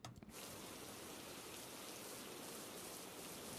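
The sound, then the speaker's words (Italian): Steady rain pours down in a dense, continuous hiss of countless drops, starting abruptly and holding an even, unbroken intensity throughout, with no voices present. “Piove. Anche oggi. Come ieri.”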